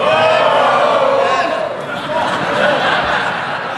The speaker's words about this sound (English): I love the House of Commons. I love the shouting. I love the harumphing.